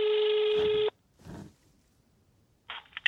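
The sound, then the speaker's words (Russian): A loud, steady electronic phone tone sounds for almost a second, followed by a brief quiet rustle, then a quick burst of short keypad dialing beeps at the end, as the phone number of a care home under quarantine is called. “Для открытия ворот поставщикам продуктов питания звонить по телефону.”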